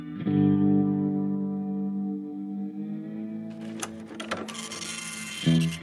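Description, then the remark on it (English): Printers buzz with a steady, low mechanical drone, then break into rapid rattling and clattering bursts partway through, fairly loud, with no voices. “Meanwhile, printers buzzed.”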